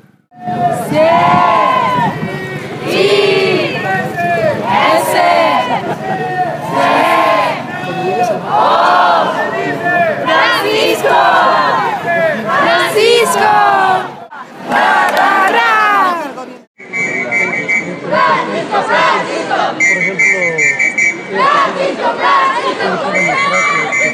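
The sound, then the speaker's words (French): A large crowd loudly chants the Pope's name spelled out letter by letter in Spanish to acclaim him, in rhythmic shouted bursts; later, steady high whistle-like tones ring out over the crowd noise. “Ici, on épelle le nom du pape en espagnol pour l'acclamer.”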